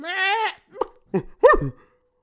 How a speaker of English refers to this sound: Number nine is various goat noises.